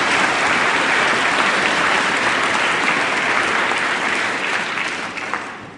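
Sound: audience applause in church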